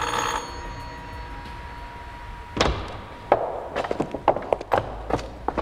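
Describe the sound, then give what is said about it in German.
A doorbell at the door of the house at 17 Lear Road is pressed and rings once with a bright, ringing tone that fades quickly, followed after a pause by a loud thud and a series of sharp clicks and clunks. “Ohne zu zögern drückte der erste Detektiv auf die Klingel.”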